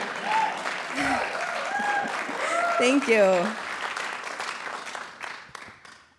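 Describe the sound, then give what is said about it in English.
Steady audience applause at a live recording fills the whole stretch, a dense crackle of many clapping hands, while a voice speaks briefly over it before the clapping thins and fades at the end. “Yes, you're being recorded, so the applause is very helpful.”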